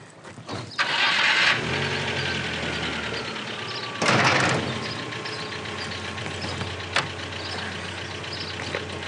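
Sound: car engine starting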